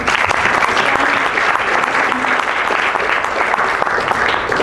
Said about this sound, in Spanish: un fuerte aplauso.